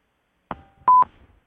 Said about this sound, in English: Oh, I think I heard a little beep there. So we have somebody online, a caller.